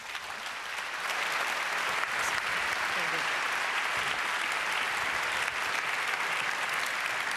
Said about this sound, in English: Applause, please.